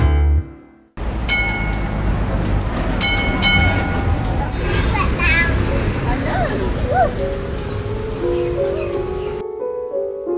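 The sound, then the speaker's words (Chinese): Tram bells clang in several quick bursts over the steady rumble of a passing tram and city street noise in central Melbourne, Australia, as crowds pass through, with a faint murmur of voices in the background. “在墨尔本市区，人群在当当的电车声中穿过，走进树影婆缩下静谧的维州国立美术馆，一面是沙沙的喷泉水声。”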